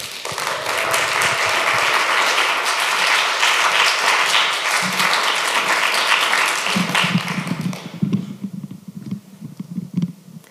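An audience claps loudly and steadily for several seconds, welcoming a performer onto the stage, a dense wash of applause that fades out toward the end as a single voice begins speaking.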